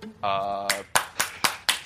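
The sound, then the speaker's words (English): A short sustained vocal cry gives way to five sharp, loud hand claps in a steady, evenly spaced rhythm. “Clap it up for the skill.”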